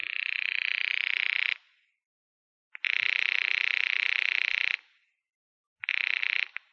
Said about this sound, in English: This is the desk, Mr. Dollar. Your number's ringing now.